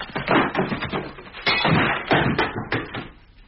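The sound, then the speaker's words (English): Shelves collapse and smash after a vase is put on them, in a loud, jumbled clatter: a rapid run of bangs, knocks and bouncing thuds tumbling over one another for a few seconds before trailing off. “I just put a vase on them. You weren't meant to put things on them.”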